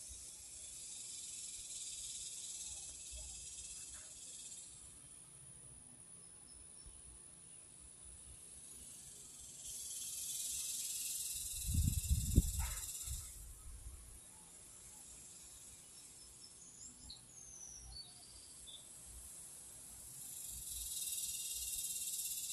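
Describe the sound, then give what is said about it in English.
Outdoor ambience in the countryside: a steady, hissing drone of insects or crickets throughout, with a few faint bird chirps and a low rumbling swell partway through. No one speaks. “Now, even when I'm at home, we can still hear those birds and we can still hear the outside, but I'm literally outside in the country right now.”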